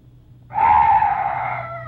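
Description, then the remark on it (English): A strange night bird call: one loud, drawn-out wailing cry that starts abruptly after a brief quiet hum, holds steady, then slowly fades and dips slightly in pitch. No talking. “Oh, some night birds. Yes, that's all. Such a weird sound.”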